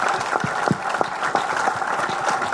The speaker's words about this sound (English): And he deserves that applause.